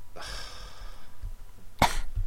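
Two coughs, fairly loud: a longer, raspy, voiced cough first, then a short, sharp single cough after a brief pause, with no talking.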